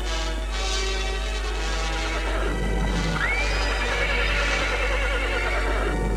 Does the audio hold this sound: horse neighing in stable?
yes